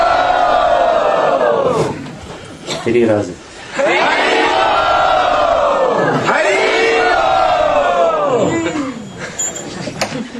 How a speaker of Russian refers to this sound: И если вы счастливы этому, то, пожалуйста, поднимите руки и громко крикните «Хари Бол». Хари Бол!